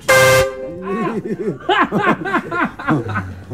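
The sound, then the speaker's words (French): A single loud, blaring horn blast from a huge truck loaded with furniture rings out up close for about half a second, then cuts off and gives way to several people laughing and chuckling. “On prend un gros klaxon dans la face.”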